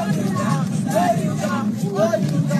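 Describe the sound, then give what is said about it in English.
A crowd of fans cheers and chants in a steady, loud hubbub of overlapping voices, with a few higher shouts rising above the babble, cheering on Nigerian chef Hilda Bossi as she attempts a world record for the longest cooking marathon. “Those are fans cheering her on as Hilda attempted to break a world record for the longest cooking marathon.”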